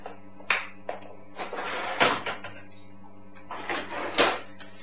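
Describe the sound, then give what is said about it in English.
A drawer holding cash slides open and shut as someone gets the money out, with scraping, rattling bursts and a few sharp knocks over a low steady hum, with no one talking. “I can get the money in a moment. It's in this drawer over here.”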